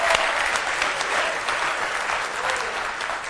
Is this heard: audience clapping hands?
yes